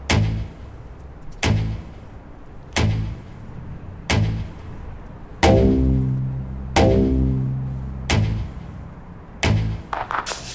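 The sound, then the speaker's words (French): About eight heavy thuds strike at a steady pace, each one booming and ringing out in a long echo in an empty factory hall where no machines are running. No voices are heard. “C'est laid, l'écho. On ne devrait pas entendre ça, on devrait entendre des machines, boum, boum, boum.”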